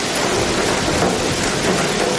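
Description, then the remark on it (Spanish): A hailstorm pelts down in a dense, unbroken roar of clattering impacts, loud, with a low rumble beneath and no voices. “Mucha atención en la zona centro y en la mitad norte del país, porque se anuncian granizadas como estas que estamos escuchando.”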